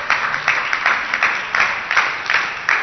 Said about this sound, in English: Somebody clap for God.